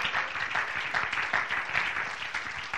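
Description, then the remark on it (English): A church audience claps their hands once again in a dense, steady burst of applause, many overlapping claps forming a continuous crackling wash that holds at an even, moderately loud level throughout. “Can you clap your hands once again?”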